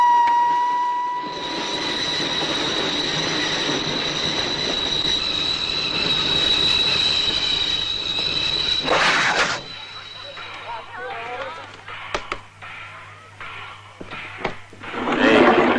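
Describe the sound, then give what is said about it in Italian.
A train brakes with a loud, sustained metallic squeal of the wheels that holds for several seconds over a rumbling roar, then cuts off, leaving quieter clanks and voices. “Il treno ha rallentato e è sceso.”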